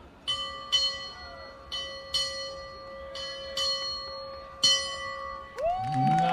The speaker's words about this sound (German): Ja, hören wir doch mal rein, ob sie denn auch richtig 7-mal geläutet hat. Walten Sie Ihres Amtes. Ja, sie macht das schon, sie macht das schon. So. Jetzt geht's hier an die Glocke und jetzt wird gleich geglockt.